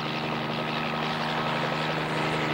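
Steady, loud helicopter rotor and engine drone heard from inside the cabin, a continuous droning hum with a throbbing low rumble and no talking.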